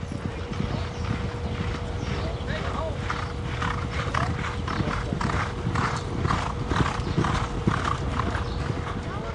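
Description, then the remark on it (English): Racehorses with riders gallop past during a workout, hoofs thudding steadily on a thick dirt track in a fast, rhythmic, continuous gallop, with the horses' strained breathing, a low rumble and a steady hum underneath. “The only sound is the soft thudding of hoofs on the thick carpet of dirt and the strained breathing of the horses as they fly past.”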